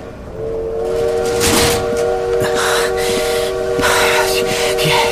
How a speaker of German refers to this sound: Und so rannte ich aus dem Abteil, den Gang entlang, sprang auf den Bahnsteig, riss dem verdutzten Zeitungsjungen das Blatt aus der Hand, warf ihm einen Daim zu und sprang in dem Moment wieder auf den Zug, als das Signal zur Abfahrt ertönte.